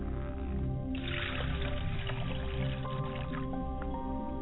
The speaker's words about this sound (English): I pour libations to the south, which is Heteruti.